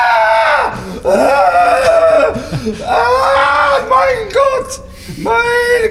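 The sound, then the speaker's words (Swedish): A person imitates loud, drawn-out cries of pain in a series of anguished screams and roars with wavering pitch, with brief breaks between each wail. “Jag skriker och vrålar.”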